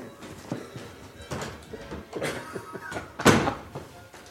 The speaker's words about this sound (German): Moment, wir machen die Tür auf. Moment. 1, 2, 3.